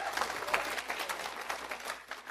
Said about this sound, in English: Don't we serve a great God? Amen. Amen. Amen. Amen. Give him a hand clap this morning for just being a great God.